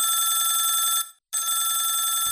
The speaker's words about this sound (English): Mom! Telephone!